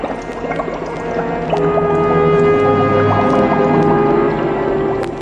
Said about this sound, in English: Welcome, Conan of Cimmeria. Come you closer and stand before my bubbling cauldron.